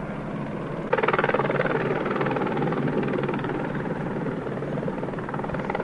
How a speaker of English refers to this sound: Several helicopters are circling overhead, I assume in preparation for the march and rally as it makes its way from Pershing Square through the streets of downtown Los Angeles to the Staples Center here on 11th and Figueroa.